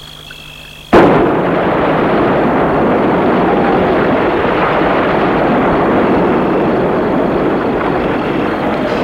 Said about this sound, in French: Une grosse explosion et un nuage de fumée.